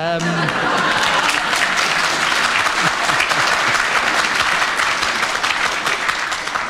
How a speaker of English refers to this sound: I'm sure that that is a very unkind cut at Clement Freud, but the audience clapped, and so for a bad joke, we will give you a point, Juno